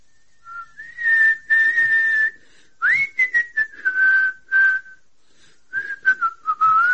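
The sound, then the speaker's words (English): A person whistles a melodic tune in a corridor in clear, sustained notes with pitch slides, broken by short pauses, moderately loud with no talking. “Wait, no whistling in the corridor.”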